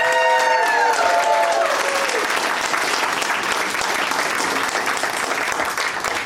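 An audience claps steadily and loudly for several seconds for a game contestant, a dense, even wash of applause, with a brief falling tonal sound riding over it in the first couple of seconds.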